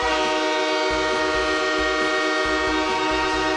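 A loud, sustained train horn blares for several seconds over the rhythmic rumble and clatter of a train rolling past. No voices are heard.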